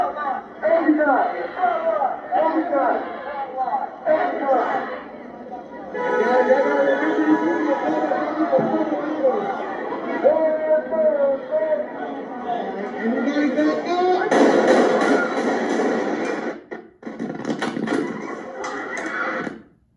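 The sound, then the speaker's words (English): A large crowd of protesters chants "Antifa" and shouts together almost without pause, loud and dense, with a sharper, noisier surge of yelling near the end before a brief dip. “So, as we've seen so frequently with these events, you've got a big crowd, you've got people in this case chanting Antifa, whatever else they were chanting”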